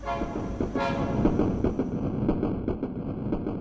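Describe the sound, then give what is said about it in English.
A train horn sounds a brief, steady toot at the start, then fades into the continuous rumble of a passing train with a faint rhythmic clatter of wheels on the tracks, the tracks overlooked by a warehouse studio in Philadelphia. “His lofty warehouse studio overlooks the train tracks.”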